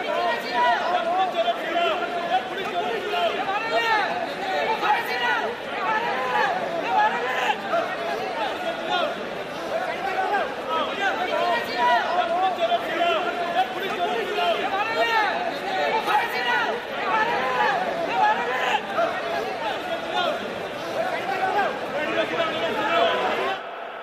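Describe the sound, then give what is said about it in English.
A dense, continuous roar of many voices shouting and talking over one another on a busy trading floor, loud and steady throughout with no single speaker standing out. “The frantic sell and buy signals, indicated by the position of the hands, can be the basis of huge deals, an insistent flick of the fingers being the only way to attract attention above the roar of the crowd.”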